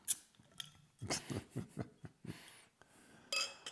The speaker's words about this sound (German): Und Mike schüttet sich hier das Bier ein.